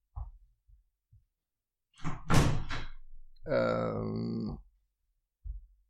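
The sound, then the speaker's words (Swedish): A door thumps and bangs a few times in the wind, with a noisy rattling burst and a drawn-out creaking groan in between, then one last dull thud as it is shut. “Jag ska bara stänga den där dörren som står och slår på grund av vindpusten.”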